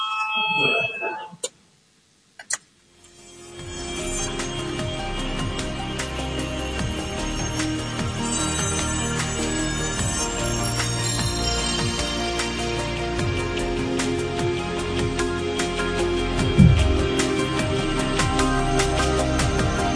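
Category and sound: signal or alarm, parliamentary voting bell ringing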